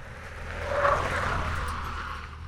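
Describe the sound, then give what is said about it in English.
A car approaching from behind on a road near a river: its engine rumbles with broad road noise, swelling louder around the middle, then holding steady as it passes by. No voices are heard. “Suddenly, we heard a car behind us.”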